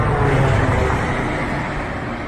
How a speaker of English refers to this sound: Also, another little piece of evidence or data, if you will, is when the Air India flight comes by, it makes what sounds like a propeller plane sound.